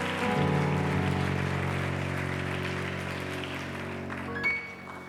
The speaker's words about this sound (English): Let's give God one more hand clap of praise as we're seated.